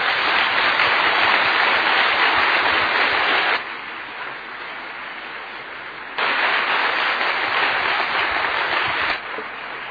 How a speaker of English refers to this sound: And we don't always clap for the preacher, but would you give him a Northwest welcome as he comes, please, and clap.